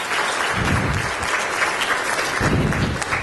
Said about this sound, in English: Thank you, everyone, for coming out tonight. If we can just get another round of applause for our speaker here today.